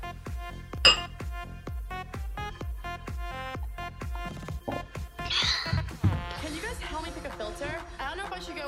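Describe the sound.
Glasses of wine clink together once in a toast, a bright, sharp chime near the start, over steady rhythmic background music with voices in the mix.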